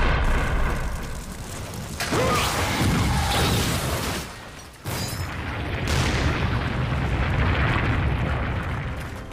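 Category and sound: nature, volcanic eruption explosion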